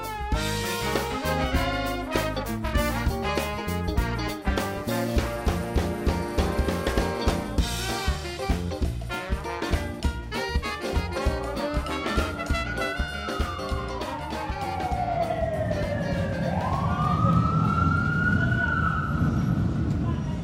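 Canal Street in New Orleans, a busy thoroughfare with two streetcar lines running between six lanes of traffic: a steady traffic rumble, and a siren that wails up and down, rising and falling clearly over the noise, following an opening stretch of music.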